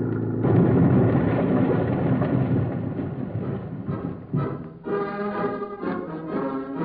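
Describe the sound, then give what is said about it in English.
A bus crashes at the bottom of a hill after dropping off it at at least 65, during the filming of a movie take: a sudden, loud roaring rumble that holds steady for several seconds before breaking into rattling bursts and ringing, tonal clatter, with no voices heard. “Look at that bus travel. It's almost to the bottom. Here's the crash.”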